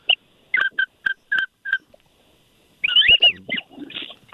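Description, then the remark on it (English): Whistling ducks, likely wigeon: a quick run of six short, bright whistled notes, a brief pause, then a busier, overlapping burst of warbling whistles, clear with no talking. “Oh, that sounds like a good whistle there.”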